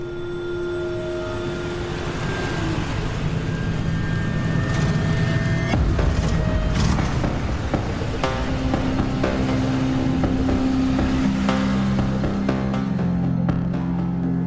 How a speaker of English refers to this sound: As she drives off, the man with the golden tooth follows her in his truck.